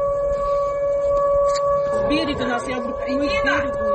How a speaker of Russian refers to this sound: Сирена, слышь, заорала?